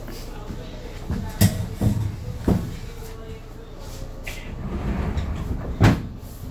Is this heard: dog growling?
no